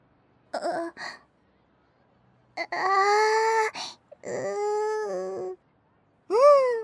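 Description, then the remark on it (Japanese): An adult voice imitates a one-year-old baby during role-play, with whiny wailing cries and fussy babbling sounds in several separate bursts, fairly loud, with short pauses between. “赤ちゃん言葉で喋れってことかな。”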